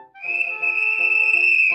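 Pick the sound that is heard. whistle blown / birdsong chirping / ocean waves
whistle blown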